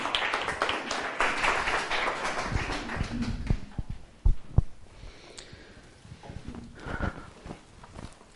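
An audience gives warm applause welcoming a guest who will talk about his life: a dense, loud patter of many hands that gradually thins into scattered claps and dies down toward the end.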